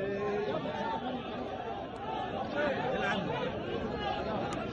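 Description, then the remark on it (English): A giant crowd of Palestinians roars with overlapping shouts and cheers as the mutilated bodies of two men executed as supposed collaborators with Israel are hanged up, a steady, loud wash of many voices with occasional sharper yells rising above the din. “People shouting, cheering.”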